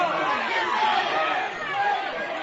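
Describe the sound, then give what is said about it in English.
A large softball crowd groans and murmurs together after a runner from third is tagged out short of home plate, a steady, loud wash of overlapping voices that swells and dips slightly, with no single speaker standing out. “So Stella Landry, you can hear the audible groans from the crowd here.”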